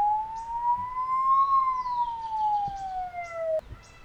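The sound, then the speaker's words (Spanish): An approaching ambulance siren wails with one long tone that slowly rises and then falls, fairly loud and steady over faint background noise, before breaking off abruptly near the end. “Bueno, mire, ahí viene la ambulancia.”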